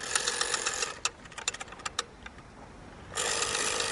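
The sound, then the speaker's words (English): A landline rotary phone dial whirs through bursts of rapid, even mechanical clicking, broken by a few slower, separate clicks, then another quick ratcheting run. No voices. “The term dial-up came from this rotary dial.”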